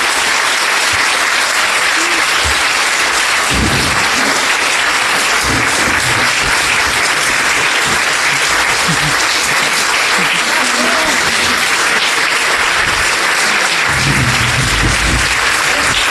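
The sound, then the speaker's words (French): Sustained audience applause for four candidates after their debate in Nicolet-Bécancour for the general elections of October 1, at the Centre des arts populaires: a dense, steady clatter of many hands clapping at an even loudness for about sixteen seconds, with a few faint low voices underneath. “Je vous invite maintenant à applaudir nos quatre candidats pour leur prestation.”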